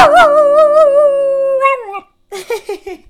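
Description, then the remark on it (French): A dog named Lucky lets out a long, wavering howl that rises and warbles for nearly two seconds, then breaks into a few quick, excited yips after a brief pause. “C'est qui le meilleur chien du monde? Ah, il est content que tu dis ça.”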